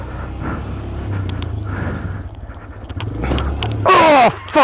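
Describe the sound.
A vehicle rumbles steadily, then takes a short series of scraping, clattering thuds as its underside hits a rock. A man immediately cries out in alarm.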